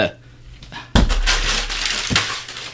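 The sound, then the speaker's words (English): After a brief near-silence, a sheet of paper with a PSA script is abruptly crumpled up, giving a dense, loud crackling rustle with a few sharper crinkling bursts that continues to the end. “I think not crumpling up the PSAs is a good idea.”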